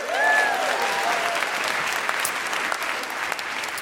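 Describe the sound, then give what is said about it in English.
Sustained applause from an audience applauding themselves for changing a law by working with Amnesty and other lobbying groups, a dense wash of clapping that starts strong and carries on steadily, with a few whoops or cheers rising briefly near the start. “So give yourselves a big round of applause for that.”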